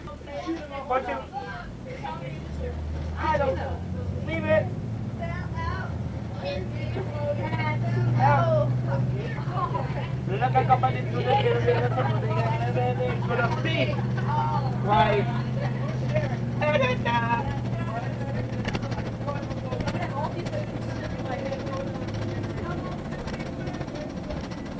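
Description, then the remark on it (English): Steady low engine drone and rumble from inside a moving bus in Kingston, with a sustained hum throughout and a constant murmur of passengers' voices chattering in the background. “Bus ride isn't done yet.”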